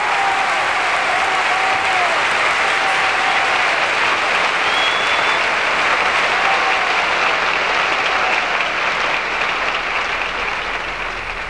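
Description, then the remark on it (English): Sustained applause from a large theater audience seated after a performance, a dense steady wash of many hands clapping at full volume for several seconds before easing slightly at the end, with a few faint whistles or cheers. “because the performer overwhelms us with an experience of life that we cannot possibly have in real life, and then it's over and we're left there sitting in our seats clapping.”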